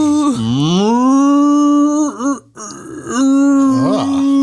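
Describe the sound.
A person imitates a cow, drawing out long, loud, low moos with sliding pitch, split by a brief pause, then a second sustained moo that wavers at the end.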